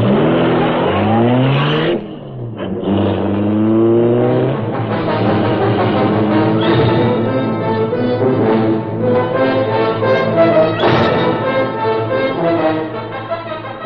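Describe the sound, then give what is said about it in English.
The engine of the Black Beauty, the Green Hornet's streamlined car, roars to life and revs hard, its rising harmonic whine climbing and surging repeatedly as it speeds away into the darkness, loud and sustained with no talking. “The freight car roared into life.”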